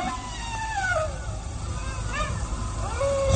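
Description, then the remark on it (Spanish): A canine howl rings out on a cloudy night by a graveyard, from beyond a tomb near an abandoned chapel. It comes in long, wavering tones that slide downward in pitch, followed by a shorter howl near the end, all over a steady low rumbling background. “Oh, ahí está de nuevo el aullido. Sí, se oye más cerca.”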